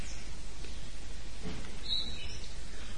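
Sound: nightingale song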